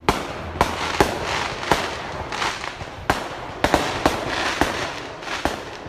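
sound effect, fireworks exploding

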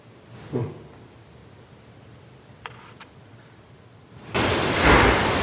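household object, door closing

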